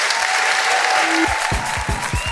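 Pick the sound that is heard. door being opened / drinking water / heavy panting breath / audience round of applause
audience round of applause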